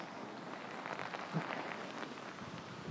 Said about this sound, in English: That you hear that rain sound? That's on the hood of my coat.